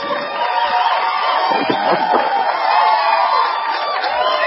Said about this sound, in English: All the baseball fans are up early in the hotel next door. They're standing outside the window clapping because they know you're on the air.